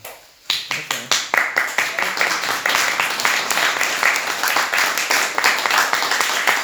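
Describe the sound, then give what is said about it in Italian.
An audience breaks into applause, starting with a few separate claps that quickly build into steady, loud, dense clapping that carries on to the end. “Io vi devo dire cosa penso di questa faccenda degli applausi.”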